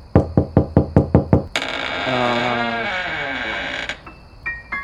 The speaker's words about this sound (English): No one's there. That's not scary. I mean, doors open sometimes. It probably wasn't closed that tight, and all the knocking just loosened it.